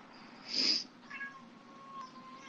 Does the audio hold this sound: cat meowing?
yes